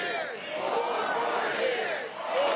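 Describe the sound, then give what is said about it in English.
A large crowd at a political rally chants "four more years" in a steady, subdued chant, many voices blending into a continuous, somewhat half-hearted roar that swells slightly toward the end. “A very unenthused 4 more years? I'm not convinced. I don't think the crowd's convinced.”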